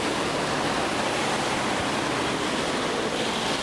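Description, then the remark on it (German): Loud street traffic at Hammerlandstraße and Siebekingdamm makes a steady, unbroken roar, a dense hiss-like wash of noise that holds an even level throughout, with no individual horns or voices standing out. “Was nicht so cool ist, ist, dass es hier so laut ist an der Straße.”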